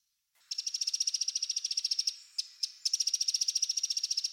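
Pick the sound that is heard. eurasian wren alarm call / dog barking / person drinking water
eurasian wren alarm call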